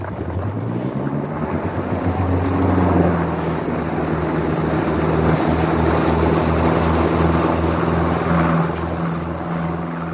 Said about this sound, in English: The boat gathered momentum, and soon it sped over the water at top speed.